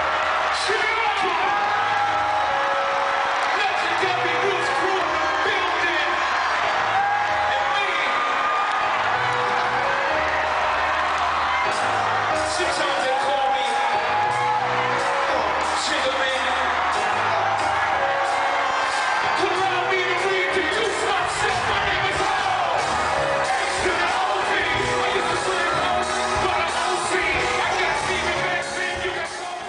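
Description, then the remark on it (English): A huge concert audience in a building screams and cheers without pause, a dense wall of high-pitched shrieks, whoops and yells that stays loud and unbroken throughout. “Like, those were the craziest, like, crowd shit where, like, you couldn't hear anything but the audience screaming.”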